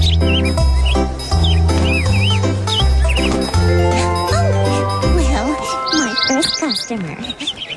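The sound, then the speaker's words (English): Birds chirp and tweet in quick, high trills over steady background music, the chirping growing busier and more overlapping toward the end. “Two out of two birds agree.”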